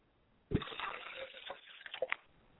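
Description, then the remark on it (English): Liquid is poured out as a libation to the east in a steady splashing stream for about two seconds, starting abruptly with a splash and trickling unevenly toward the end. No voices are heard. “I pour libations to the east, and I say Ashe.”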